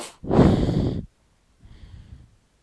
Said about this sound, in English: As I sit here next to my snoring son, can you hear him?